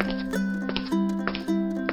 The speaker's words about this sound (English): Everything is music to me. Footsteps on the floor,